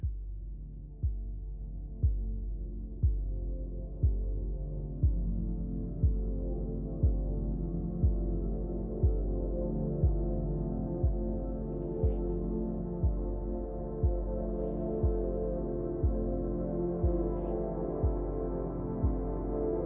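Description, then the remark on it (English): A calm, sustained ambient music track with warm low drones, underpinned by a slow, steady pounding beat roughly once per second, like a soft heartbeat. No voices are present. “I'm guessing that pounding is supposed to get your heartbeat baseline.”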